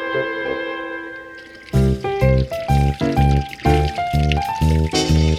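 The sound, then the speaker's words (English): Water gurgles and bubbles in a quick series of about ten loud glugs, their pitch stepping upward like a filling container, after a soft, steady tone. “Gurgle, bubble, water flows, soaks the jam between his toes.”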